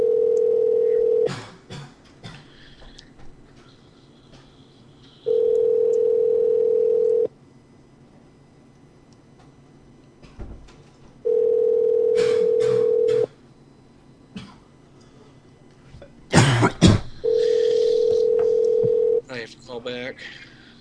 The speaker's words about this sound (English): All right, guys. Hey, we're dialing.